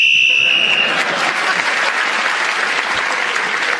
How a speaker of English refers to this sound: Clement Freud was speaking as the whistle went again and gained that extra point and increased his lead by 2 over Kate Robbins, and then comes Tony Hawkes and Julian Clary.